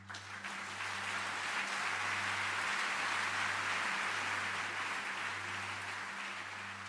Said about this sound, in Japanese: まずは皆さん、勇気を持ってこの壇上に上がった彼へ、心からの拍手をお願いします。